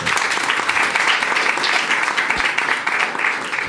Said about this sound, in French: Merci beaucoup d'être venu et vous pouvez encore l'applaudir s'il vous plaît.